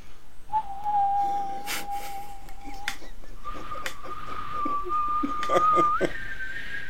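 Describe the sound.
Someone whistles a slow melody as a show's farewell outro, holding long steady notes that step upward in pitch, with faint background noise and a few soft clicks underneath.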